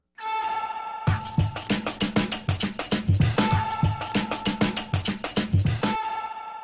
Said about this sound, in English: Cause at the beginning of the song, he kind of says it like an oh, and I just pitch corrected it and added reverb, ran it through an amp.